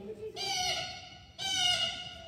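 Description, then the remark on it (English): Two harsh, nasal blue jay calls, each drawn out for most of a second with a short gap between, loud. The sound seems to be a voice imitating the bird. “This is a blue jay.”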